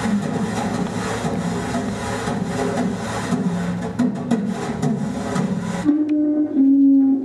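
Two dishwashing brushes scrub a cardboard plate used as a light, portable drum kit, in a steady, dense swishing rhythm with quick scratchy strokes. Near the end the brushing drops away, leaving a low, sustained tone.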